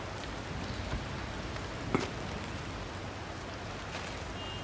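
rain falling

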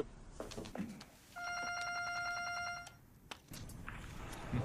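phone ringing

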